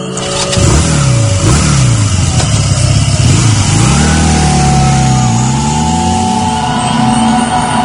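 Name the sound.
motorcycle engine revving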